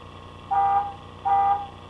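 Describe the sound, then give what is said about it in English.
Two short, evenly spaced blasts of a car horn, each about a third of a second, steady and fairly loud over a low background hum, with no one talking. “It's honking. Okay. You know the horn?”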